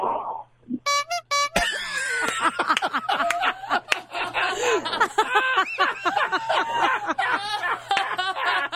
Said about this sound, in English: Moment of noise coming up in 5, 4, 3, 2, 1. Everybody honk. Delay. It's a delay. It's a delay. There's one.